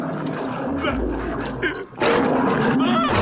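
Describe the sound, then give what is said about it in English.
A lion roars loudly, a deep rumbling growl that swells, breaks off briefly, then surges back in a second harsh, full-throated blast amid a busy, noisy scene. “But the lion's coming straight towards us.”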